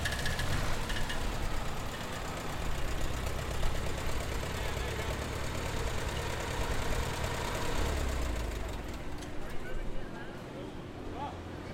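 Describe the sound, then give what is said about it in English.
A tractor engine, started for a procession of tractors down a midway at 5 miles an hour, runs at a steady idle, its low rumble and chugging holding constant throughout, with indistinct crowd voices mixed into the background. “The tractor was soon running, and the profession snaked down the midway at 5 miles an hour, to much fanfare.”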